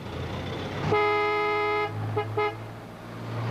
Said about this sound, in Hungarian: Hallottam a dudálást.